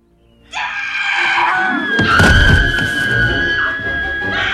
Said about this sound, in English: The next morning, James and Michelle are awoken by screaming.